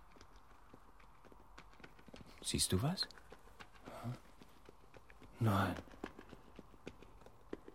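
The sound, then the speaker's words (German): Steady clip-clopping of the hooves of a pony or horse coming along a road from behind, sharp regular knocks, continuing underneath a few short spoken exchanges. “Ein Hobbit-Pony oder ein Pferd.”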